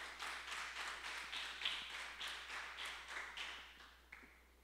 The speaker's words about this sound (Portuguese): Dá um aplauso ao Senhor então.